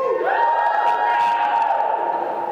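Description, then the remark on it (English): An audience cheers loudly and steadily for new perspective gained from time in the wilderness, a crowd of voices whooping and shouting together with scattered clapping, sustained at full volume for the whole stretch. “And can you maybe give a cheer if you're here today with new perspective because of the wilderness?”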